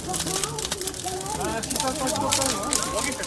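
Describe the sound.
A singing voice blares through a loudspeaker over the steady, dense crackle and pop of wood burning nearby, the song's wavering melody riding loud above the fire's continuous snapping.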